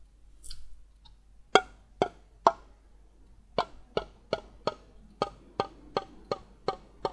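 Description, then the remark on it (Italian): Drops from a dropper bottle fall one by one into an empty disposable plastic cup held suspended between two fingers, making sharp little plinks: three spaced drips, a pause, then a steadier run of about ten evenly timed drops. “Prendiamo il nostro flacone di gocce e mettiamo le gocce nel bicchiere.”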